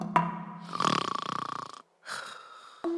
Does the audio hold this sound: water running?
no